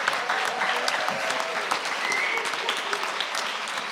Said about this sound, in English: I'm going to say a thank you to you first. Because, and in fact, let's show our thanks by a clap to start with.